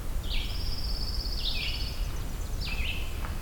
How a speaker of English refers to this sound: Okay, so we're starting with an indigo bunting.